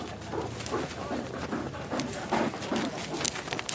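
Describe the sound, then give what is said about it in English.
Reindeer panting hard after racing around a course and arriving at the finish line, quick rhythmic breaths huffing one after another, with a few low voices murmuring underneath. “One by one, the reindeers race around the course and arrive at the finish line, panting.”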